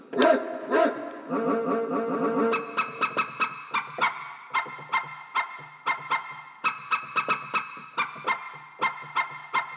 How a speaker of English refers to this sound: Oh, it's the dog song. I love how they're all at different pitches.